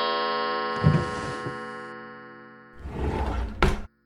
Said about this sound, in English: The secret compartment in the clock. From 12 to 6, then twice to 9, turn back to where the hands align.